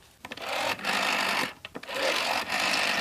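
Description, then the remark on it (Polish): The dial of an old corded rotary telephone is turned and released several times while dialing numbers, each return a buzzing, ratcheting whir lasting under a second, separated by brief clicky pauses. No one speaks. “wybierając numery, słyszeliśmy charakterystyczny dźwięk wykręcania danej cyferki”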